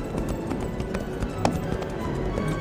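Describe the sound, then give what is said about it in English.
Steady clip-clop of horse hooves as a rider spurs his horse from a ranch gate toward a house, a brisk repeated rhythm of sharp taps over a low rumbling background, moderately loud, with no voices. “As he passed through the gate to the G-Bar Ranch, Tack could see a man standing on the porch. He spurred his horse toward the house.”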